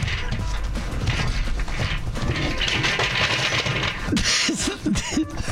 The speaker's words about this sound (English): Did you just fall out of your chair? Are you okay?